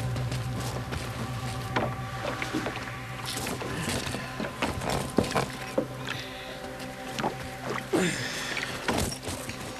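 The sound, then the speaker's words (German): A flat metal box, taken from a small cave, scrapes and clunks as two people drag it to a boat, with scattered footsteps and knocks over a steady low engine hum near the water. No one speaks. “Er führte Justus zu einer kleinen Höhle, unter der eine flache, Metallkiste verborgen war und schleppte sie mit Justus zum Boot.”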